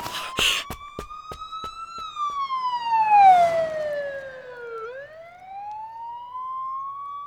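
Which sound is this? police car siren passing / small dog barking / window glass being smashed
police car siren passing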